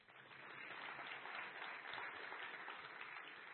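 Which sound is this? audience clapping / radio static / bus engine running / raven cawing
audience clapping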